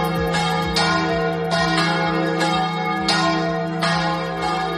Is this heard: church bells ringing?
yes